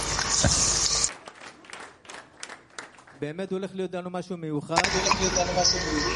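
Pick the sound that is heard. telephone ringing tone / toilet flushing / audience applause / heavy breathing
audience applause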